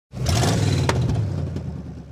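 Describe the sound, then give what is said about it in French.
A car engine bursts into life and revs, a loud rumbling roar that holds steady for about two seconds as the car pulls away, with no voices. “Elle en profite pour se casser en voiture.”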